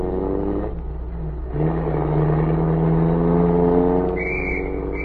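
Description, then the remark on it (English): The general's car engine revs and accelerates, its steady mid-pitched drone rising as it pulls away, with a brief high tone near the end from a police whistle, and no talking. “As the car pulled away, a police whistle sounded.”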